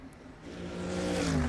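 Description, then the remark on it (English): A normally aspirated 4-litre flat-six Cup race car engine, producing just over 500 horsepower, revs up, its tone climbing steadily in pitch and growing louder over about a second and a half, with a smooth, rising harmonic whine and no voices. “The sound of that engine. I will put my hand up and say I'm a fan of flat sixes.”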